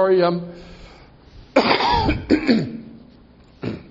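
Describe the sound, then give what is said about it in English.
A person coughs and clears their throat several times in loud bursts, with brief pauses between the harsh, raspy fits. “Now I'm coughing and stuffing around everywhere.”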